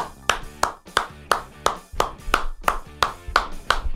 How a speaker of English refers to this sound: a Wimbledon tennis clap. Wow. For that performance.